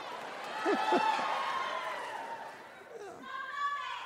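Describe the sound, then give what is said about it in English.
A live audience shouts a name together as a suggestion to replace Columbus Day, in a loud, overlapping roar of voices, with a few sharper calls rising out of the din before the chanting swells again near the end. “They're shouting my own name.”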